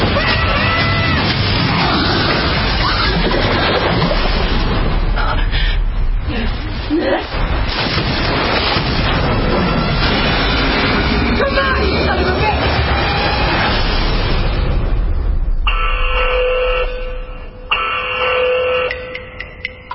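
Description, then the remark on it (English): A loud, continuous roar of storm wind and crashing water from a thriller disaster film about a massive hurricane smashing into Florida surges for about fifteen seconds with heavy rumbling booms, then gives way to a steady, ringing tonal sound at the end. “Massive hurricane smashes into Florida. It's a thriller disaster flick.”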